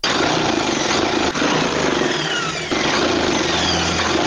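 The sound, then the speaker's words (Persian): A tailor's sewing machine runs steadily and loudly, its motor whirring with a fast mechanical chatter, pausing very briefly twice before resuming, as it sews clothing for a customer in a tailor shop in the fifth district of Kabul, Afghanistan. No one speaks. “با ماشین خیاطیش در حال دوختن لباسیدی برای یکی از مشتریانش در شهر کابل است.”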